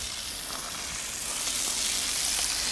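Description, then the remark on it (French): A horse named Quimper being hosed down after training: a steady, hissing spray of water runs without a break for a few seconds, bright and even, with no voices over it. “Après l'entraînement, le cheval Quimper a droit à une douche.”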